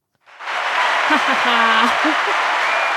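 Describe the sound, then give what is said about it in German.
Steady, dense applause from many hands starts abruptly and continues loudly throughout, with a brief voice or call rising faintly above the clapping. “Wie wird geklatscht? Mit den Händen.”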